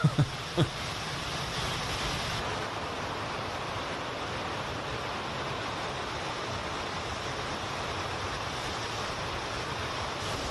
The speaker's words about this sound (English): We're looking at the water, the dam being opened by Bulgaria, the water that runs into the Evros River, which is preventing or makes it harder for illegal migrants to cross over